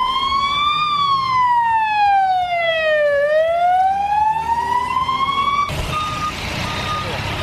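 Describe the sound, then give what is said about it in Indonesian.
A loud ambulance siren wails as an ambulance speeds through streets in Lebanon, gliding slowly down in pitch and then back up over street noise, before cutting abruptly to a busier traffic scene with short tonal beeps. “Ambulans melaju kencang di jalan-jalan”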